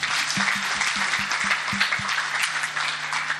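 An audience claps steadily for a friend being introduced, a dense wash of many hands with a low rhythmic thump pulsing underneath for the first couple of seconds.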